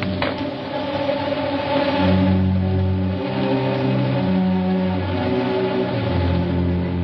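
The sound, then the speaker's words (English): A car engine revs loudly and steadily, its pitch climbing and shifting as the vehicle pulls away, with a continuous rumbling drone throughout and no voices. “I'm on my way to the pier. Can I give you a lift?”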